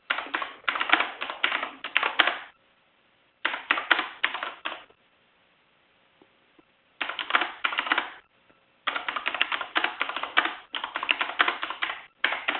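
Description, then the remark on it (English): Rapid clicking of typing on a computer keyboard on a wooden table, heard over a call from a participant who is not muted, comes in several bursts of a second or two, separated by brief pauses. The keystrokes are fairly thin-sounding, with no voices. “Is someone typing without mute?”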